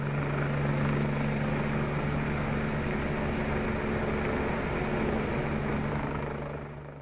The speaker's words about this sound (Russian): Для эвакуации пассажиров власти кантона направили вертолеты.